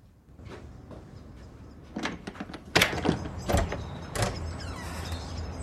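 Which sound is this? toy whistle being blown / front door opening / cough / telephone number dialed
front door opening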